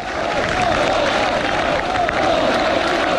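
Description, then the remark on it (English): A large crowd in Krasinski Square, Warsaw, Poland, cheers and shouts for Donald Trump during his speech, a dense, steady roar of many voices, loud and sustained throughout, with the open, washed-out sound of a big outdoor gathering. “That's people in Warsaw cheering for Donald Trump today.”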